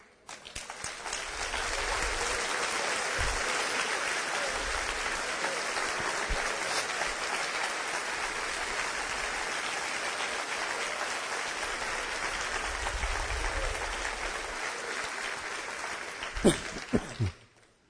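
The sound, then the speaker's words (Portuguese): A church audience applauds the Lord in a loud, dense burst of clapping that holds steady for about fifteen seconds, then breaks into a few sharp final claps before stopping. “Quando vocês aplaudirem o Senhor, façam isso direito, irmãos.”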